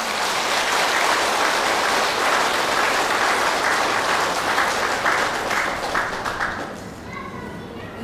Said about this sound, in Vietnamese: Nếu các quý Phật tử đang có mặt tại chùa Hào Quang và những người đang theo dõi trực tiếp trên Facebook Thích Nhật Từ á, hoan hỷ với lời kêu gọi của tôi thì hãy cho một tràng vỗ tay thật lớn.